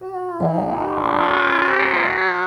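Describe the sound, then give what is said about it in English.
A single voice hums the theme music of the TV show Lost, a strained, wavering tune like a creaking gate: a sustained nasal tone that jumps up after a brief low start and wobbles in pitch for about two seconds. “Didn't it sound kind of like a creaking gate, not really like music?”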